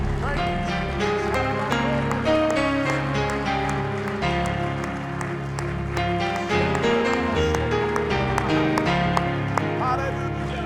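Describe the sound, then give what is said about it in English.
An audience claps in praise of Jesus in a steady, dense patter, the many hands blending into a continuous rhythmic crackle over sustained musical tones, loud and unbroken for the whole stretch. “Somebody give Jesus a hand clap of praise right now.”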